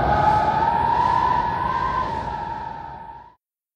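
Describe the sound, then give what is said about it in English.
A steady, whistling howl of wind over a rushing noise bed, holding one eerie pitch for about three seconds before cutting off, with no voices. “On Friday, it's windy.”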